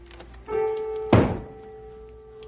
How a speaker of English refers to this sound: Where's that old broom of mine? Maybe if I bang on the ceiling, he'll take the hint and go play ball or something.